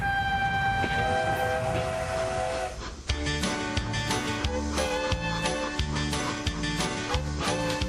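On a cross-country train trip across the United States, a train horn sounds with long, steady tones for a few seconds, then a dense rhythmic clatter of wheels on rails takes over, loud, with tonal ringing running underneath.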